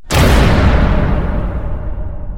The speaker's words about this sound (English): They died in jail, but they had a good run before they heard the slam of a steel door.